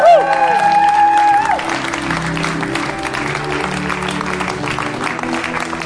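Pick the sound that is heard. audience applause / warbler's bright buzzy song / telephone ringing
audience applause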